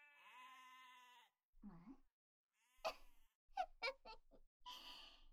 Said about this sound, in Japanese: おい、羊ども黙れ。